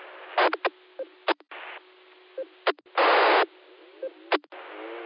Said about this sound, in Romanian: Modulație, din păcate, doar un fâșuit, așa am auzit, îmi pare rău. Deci tot fără modulație, aici Y7 Golf Quebec Zulu Mobil.